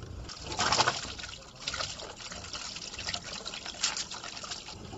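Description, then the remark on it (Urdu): A thin stream of water trickles steadily from a half-inch pipeline fed by a water tank in a street in the Kharotabad area of Quetta, with a soft continuous splashing and a couple of louder gushes. No one speaks. “خروٹ آباد کے علاقے میں واقع ایک گلی میں موجود ٹنکی سے ایک آدھے انچ کی پائپ لائن میں سے پانی کی آمد جاری ہے, جبکہ آس پاس 7 سال سے 15 سال تک کی عمر کے بچے اپنی باری کے منتظر ہیں.”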